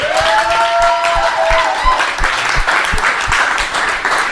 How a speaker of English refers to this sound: A huge round of applause for all the crew,